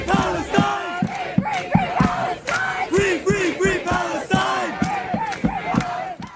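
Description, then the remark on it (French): A large crowd at a campus protest at the University of Texas at Austin chants a slogan in unison, loud and rhythmic, the same short phrase repeating with a steady beat of stressed syllables and raised voices, with no one speaking over it. “Des tentes, des drapeaux, des étudiants de divers horizons, et un même slogan entonné par la foule, ici, à l'Université du Texas, à Austin.”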